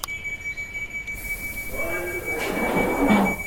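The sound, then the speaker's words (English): A London Underground Victoria line train to Victoria at Vauxhall station: wheels squeal in a thin, steady high whine over rumbling rails, the clatter and grinding swelling louder toward the end; no one speaks. “This is a Victoria Line service to Victoria.”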